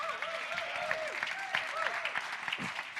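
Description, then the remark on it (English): An audience claps in a dense, steady burst of applause lasting a few seconds, with scattered voices calling out over the clapping. “You should clap your hands right there at that moment.”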